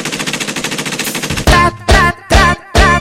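A rapid, evenly paced burst of machine gun fire rattles for about a second and a half, then gives way to four loud, booming blasts with a tonal ring, spaced in a steady beat.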